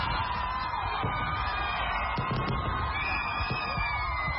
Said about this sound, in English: The sound of fireworks rippled through the nighttime sky as Ugandans ushered in the new year in the Ugandan capital, Kampala.